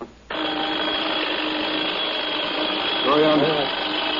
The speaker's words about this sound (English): Very unpleasant sound, don't you think? I can't seem to find the kind of alarm that I really like. I'm going to have to listen to this thing every morning.